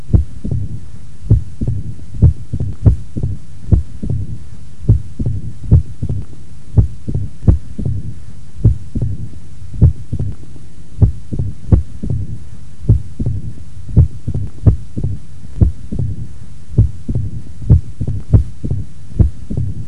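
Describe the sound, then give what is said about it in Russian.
Stethoscope recording at the first auscultation point of a female patient with mitral stenosis and atrial fibrillation: sharp, loud beats (accentuated first sound and mitral valve opening snap) in a somewhat irregular rhythm, each followed by a low, rumbling diastolic murmur filling the gaps between beats. No one speaks. “Услышанное вами сочетание усиленного первого тона, тона открытия митрального клапана и диастолического шума создает типичную аускультативную картину этого порока и носит название мелодии или ритма перепела.”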